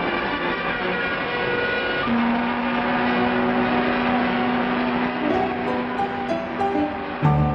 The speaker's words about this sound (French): Escorté de dizaines de bateaux, salué par les sirènes de tous les navires, survolé par des hélicoptères, au milieu des gerbes d'eau des bateaux-pompes, France poursuit sa marche triomphale vers son quai d'accostage.